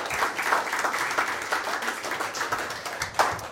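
A church audience claps steadily for a man called up to join the leader before the singing. A dense wash of many hands is sustained at an even loudness, with a few sharper individual claps standing out and no talking.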